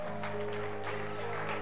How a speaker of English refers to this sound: Clap your hands for the people there.